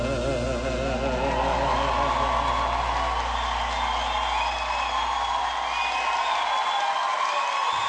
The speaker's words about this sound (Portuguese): Aplaudidos de pé pelos quatro técnicos, pelo professor Lulu Santos, Danilo Reis e Rafael.